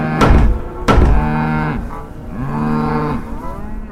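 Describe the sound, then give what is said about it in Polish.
Cows moo in deep, drawn-out, menacing bellows, overlapping, while two heavy thuds land near the start as the cows bang hard with their hooves on a closed shop door. “W drzwi kopytami tłuką brutalnie, mucząc dość groźnie, nienaturalnie.”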